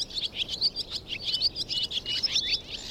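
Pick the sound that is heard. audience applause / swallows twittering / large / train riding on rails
swallows twittering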